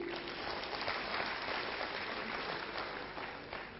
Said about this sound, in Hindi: तालियां बजाएंगे.